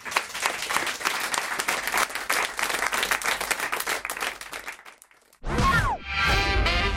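An applause sound effect: a burst of dense, steady applause from many hands lasts about five seconds and cuts off abruptly, followed by a brief pause and a loud swooping electronic tone.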